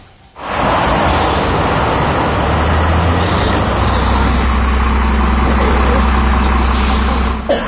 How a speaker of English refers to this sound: The constant muffled roar of the interstate freeway mixed with car fumes and the brownish haze permeate the plaza apartments. This 28-year-old federally subsidized low-income housing project is in the heart of North Portland.